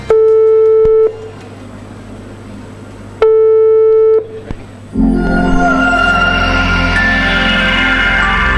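Two steady, buzzy ringback tones of about a second each, spaced by a two-second pause, as a phone call rings out, then a louder, dense wash of sound takes over.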